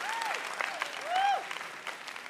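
A crowd applauds steadily, a dense wash of many hands clapping at moderate volume, with a few faint voices calling out over it.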